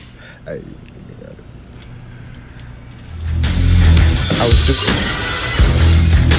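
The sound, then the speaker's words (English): After a few quiet seconds of low background sound, a hip-hop record abruptly kicks in, loud and full with heavy, thumping bass that carries on to the end. “We're going to play that record.”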